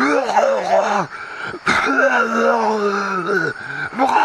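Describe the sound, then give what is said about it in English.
A voice imitates a man vomiting and coughing in a ditch: a string of strained, groaning retches with harsh gagging bursts, broken by a few short gasping pauses, loud and alone with no other sounds. “Just all this coughing, vomiting.”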